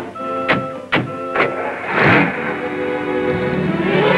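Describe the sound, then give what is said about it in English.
Three sharp clicks, then a rushing burst and the steady, humming engine of a Rolls Royce car being driven, which keeps running and rises slightly in pitch toward the end, with no voices. “drives the car”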